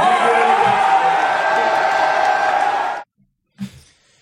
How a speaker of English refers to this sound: That's a loud applause. That's an excited fan base.